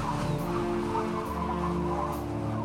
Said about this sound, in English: There are big waves crashing against our ship. And a wild, whistling wind.